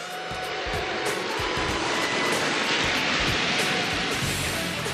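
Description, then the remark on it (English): A loud, steady roar of a low-flying firefighting aircraft dropping 6 tons of water toward a bucket target, mixed with a heavy rushing of falling water, continuous for the whole stretch, with no voices. “The water he drops weighs 6 tons.”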